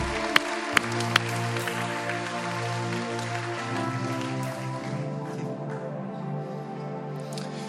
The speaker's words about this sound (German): Und jetzt setzen wir noch einen drauf und geben dem König aller Könige einen Applaus. Kommt!